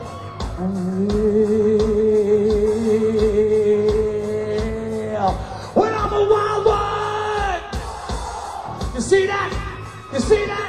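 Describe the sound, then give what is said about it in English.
A crowd yelling and bellowing loudly the words "wild one", with one long, drawn-out held shout for several seconds followed by overlapping whoops and rowdy cries, energetic. “They're yelling wild one, baby. They're yelling wild one.”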